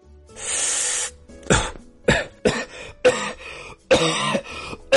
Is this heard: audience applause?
no